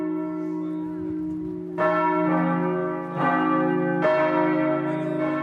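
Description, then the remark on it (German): Church bells of the Gethsemane Church ring out in a full, overlapping peal just after 6:30 in the evening as people go out with candles in front of the church, with fresh strikes landing about every second or two over a sustained resonant hum. No one speaks. “Und auch an diesem Abend gehen sie mit Kerzen raus vor die Kirche, unter Glockengeläut um kurz nach 6:30.”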